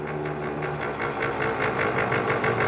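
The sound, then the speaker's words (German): The engines of two motorcycles ridden by two young toughs chug with a steady, rapid putter, growing slightly louder as they approach. No voices, just the continuous mechanical rumble. “Zwei halbstarke Typen auf ihren Motorrädern.”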